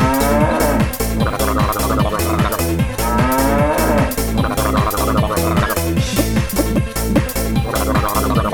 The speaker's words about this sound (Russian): Бык корову тык, корова мык.